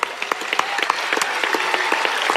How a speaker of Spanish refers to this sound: Así que disfrutéis de la charla y os mando un saludo a todos. ¡Aplauso!